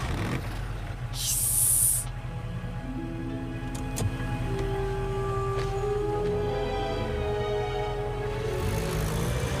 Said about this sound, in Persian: فکر کنم درست اومدیم، کامیون داره میاد این سمتی.